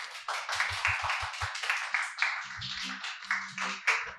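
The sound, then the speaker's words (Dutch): Steady audience applause for four participants in a broadcast at CC Amstel: a dense crackle of many hands clapping at moderate loudness, with a few low rhythmic thumps early on and faint murmuring tones underneath. “Geef jezelf en ook graag vanuit het publiek een groot applaus aan deze vier deelnemers van vandaag.”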